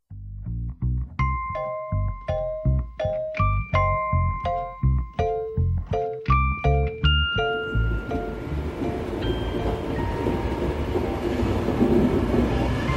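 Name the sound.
train riding on rails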